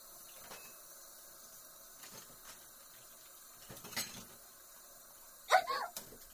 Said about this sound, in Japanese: じゃあ先に食べ終わった食器だけ片付けちゃうわね。